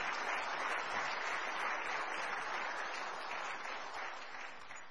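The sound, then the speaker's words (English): A crowd applauds steadily for several seconds for two men who have just retired from the Marine Corps, a dense wash of clapping from many hands that stays loud and full before easing slightly toward the end. “These two gentlemen have just retired from the Marine Corps. Let's give them another.”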